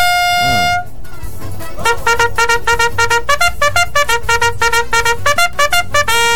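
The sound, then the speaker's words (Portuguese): A loud corneta horn opens with one sustained blare, then launches into a rapid, rhythmic run of short, punchy blasts, unaccompanied by any voices. “Olha, o Lula, o Lulinha tá por aqui, o categoria, o homem da corneta, né?”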